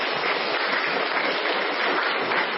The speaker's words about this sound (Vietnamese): Làm không? Làm thì cho một tràng pháo tay thưa anh chị em.